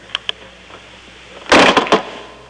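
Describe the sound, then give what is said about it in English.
A couple of light clicks from a door handle, then a bedroom door is slammed shut with a loud, heavy bang and rattling aftershocks, heard alone with no talking. “What door are you going to be using? My room door.”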